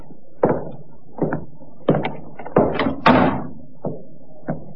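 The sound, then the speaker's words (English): A sergeant opens the unlocked door of Colonel Reed's place of business with a series of rattling clunks and creaks, the handle and latch working before it swings, moderately loud, with no voices. “The sergeant tried the door. Not locked, sir.”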